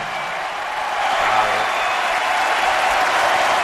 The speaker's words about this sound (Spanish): Dentro de la pista, Rafa Nadal saludando mientras todo París le ovaciona.